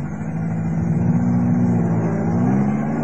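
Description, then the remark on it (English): A car engine hums loudly and steadily, its pitch rising slightly as it pulls away and accelerates for about three seconds, with no voices. “Wait for the car to drive off.”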